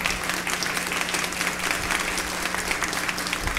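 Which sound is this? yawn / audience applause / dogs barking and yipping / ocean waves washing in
audience applause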